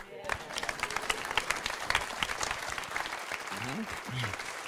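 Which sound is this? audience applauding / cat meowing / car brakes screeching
audience applauding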